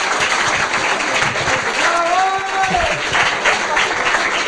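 A room full of people claps steadily for several seconds, a dense, continuous patter of applause, with a brief voice or whistle-like tone rising above the crowd midway.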